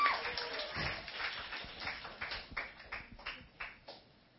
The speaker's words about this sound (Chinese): 我跟他鼓鼓掌。